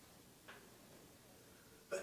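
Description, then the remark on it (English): A faint, breathy burst comes first, then a sharper, louder sneeze near the end, heard alone against a quiet, hushed background with no talking. “Gesundheit.”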